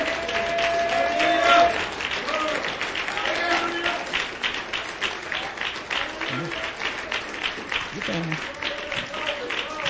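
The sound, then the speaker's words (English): A church audience applauds steadily for the whole stretch as the pastor and family leave, dense overlapping claps at a fairly loud level, with scattered voices calling out underneath. “Let's give them a hand and applaud until they leave.”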